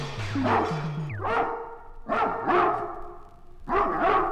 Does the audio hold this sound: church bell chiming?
no